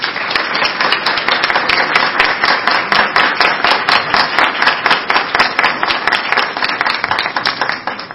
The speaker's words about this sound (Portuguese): Pedimos a todos agora uma salva de palmas aos membros do Conselho recém-empossados.